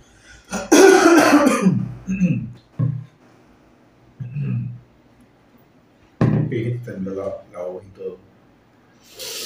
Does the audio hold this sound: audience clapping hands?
no